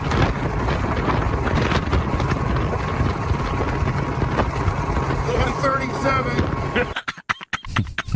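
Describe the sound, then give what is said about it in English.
A moped rides along highway 275 with a loud, steady rush of wind buffeting the microphone and engine drone underneath, voices faintly mixed in, breaking into choppy gusts near the end. “We're on 275 on the moped.”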